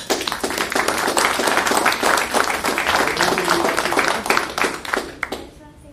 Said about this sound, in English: I mean, this is one smart young lady we have here. And just on that alone, I think she's deserving of a round of applause.